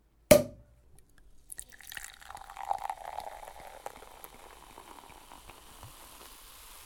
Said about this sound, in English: Well, here, let me pour you some champagne.